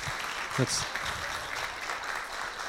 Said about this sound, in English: It's good always to end on a round of applause.